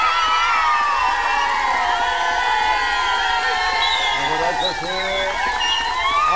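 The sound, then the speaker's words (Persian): A crowd of schoolchildren in Qazvin cheers and shouts together for the first-place winner of the city's students' 200-metre race, a loud, steady wall of high-pitched voices that holds throughout, with a few rising whoops standing out near the end. “نفر اول 200 متر دانش آموزان شهر قزوین لطفاً تشویقش کنید.”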